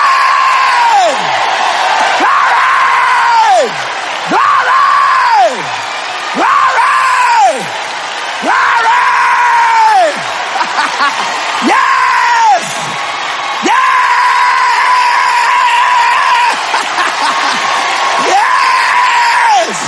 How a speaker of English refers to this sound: Are you free? Yeah. Stand to your feet and give Jesus a freedom yell. Glory!